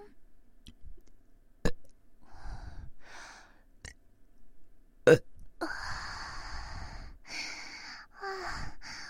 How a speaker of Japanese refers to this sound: 私もなんかゲップで気持ちよくなってきました。もっともっとね、大きいゲップ出したいな。